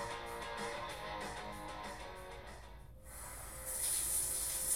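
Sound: shower running water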